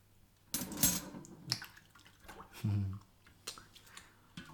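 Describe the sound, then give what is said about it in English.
Water splashes and sloshes in irregular bursts as plates, glasses, cutlery, pots and pans are washed, with a brief bright clink of crockery and a steady low hum underneath. “Do you really want to do the dishes right now?”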